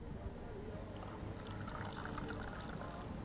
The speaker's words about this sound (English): Let's pour the brew and add some hot water. And a bit more hot water, yeah.